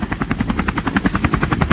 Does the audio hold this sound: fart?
no